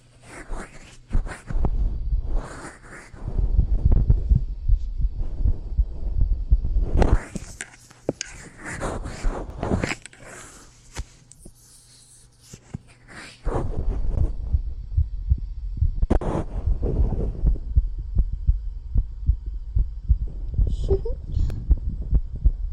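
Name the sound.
fast heartbeat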